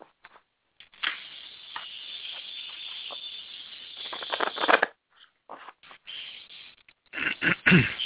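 A deck of cards is shuffled: a long, dense papery riffle of about four seconds, then several shorter flicking bursts and a louder final flurry of card rustling. No one speaks.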